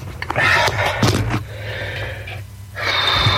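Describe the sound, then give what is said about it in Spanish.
A woman breathes loudly and heavily, with a run of sharp gasps and snorting exhales, then a raspy, wheezing breath that carries through to the end, with no talking. “Ahí está, respirando.”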